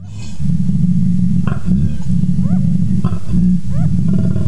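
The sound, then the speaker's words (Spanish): A koala bellowing: a loud, deep, rasping snore-like drone that pulses in repeated cycles, broken by brief gulping breaks, with no one talking. “La científica recogió las grabaciones durante 7 días y en algunas de ellas captó cómo el tráfico de los coches en la noche tapaba los sonidos de los koalas, lo que dificulta su comunicación.”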